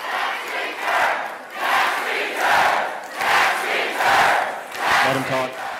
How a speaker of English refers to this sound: He held a town hall meeting in a Springdale venue that sat 2,000 and held the yells of what seemed like thousands more. Do your job was a popular cheer. So was the demand that the president release his taxes.